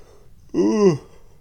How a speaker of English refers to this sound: Ooh. Why am I still yawning?